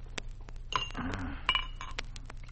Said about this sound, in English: Can I pour you a drink? You sure can. Make it scotch and water, will you? Easy on the water. Looks like it'll have to be bourbon